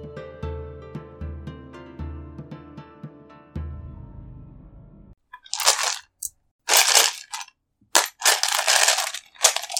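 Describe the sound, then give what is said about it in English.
After a few seconds of soft tonal music, a hand plunges into a bag of dice several times, making loud, crunchy rattling bursts separated by short pauses. “God, I love the sound of dice.”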